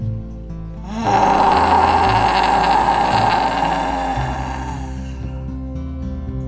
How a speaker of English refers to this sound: Take a nice big breath in and open your mouth as wide as you can. Stick out your tongue and let a roar start from deep in your belly, come all the way up and out.